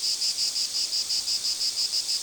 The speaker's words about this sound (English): I could hear but not see the culprit. With my kids at my heels, I ascended a nearby pine tree to pinpoint the noise and locate its source. Just a few limbs up, my son found a stout, 1-inch-long, black and green insect loudly calling out.